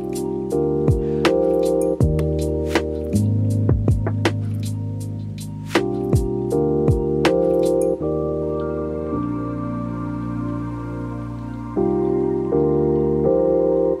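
A mellow lo-fi hip-hop instrumental track by a Danish instrumental producer: warm sustained chords shift every couple of seconds over soft, steady drum hits, with a constant rain-like crackle and hiss running underneath. No voices.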